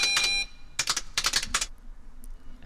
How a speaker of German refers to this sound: Aber auch, wie die erstmal mit was für einer Gewalt die auf die arme Tastatur einhält.